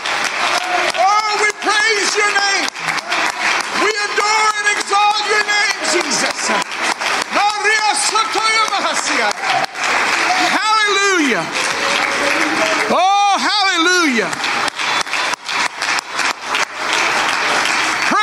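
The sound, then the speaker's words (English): A standing audience claps loudly and steadily while voices shout unto God and cry out over it, some rising into high, wavering calls, the dense applause continuing without pause throughout. “And let's stand to our feet and let's clap our hands and shout unto God with the voice of triumph.”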